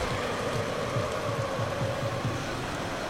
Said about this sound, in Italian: È calata molto la spinta dei tifosi della Roma, si sentono quasi solo i tifosi del Bayern.